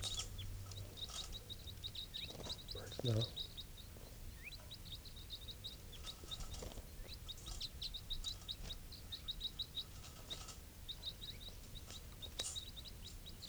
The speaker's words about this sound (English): Recording, these are the calls of one of the wild birds.